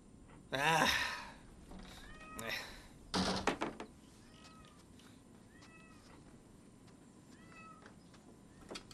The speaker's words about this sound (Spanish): A lo mejor los gatos también se pelean al principio.